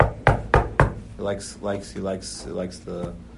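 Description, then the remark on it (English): Three quick, sharp knocks on a door in an even rhythm, loud, followed by a man talking. “This person knocks on your door.”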